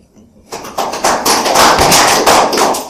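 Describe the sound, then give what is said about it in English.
At a hearing, after a brief quiet moment, an audience breaks into applause for a submitter: many overlapping hand claps form a dense, steady, fairly loud patter that continues to the end. “Just to the audience, you don't need to clap up as submitters.”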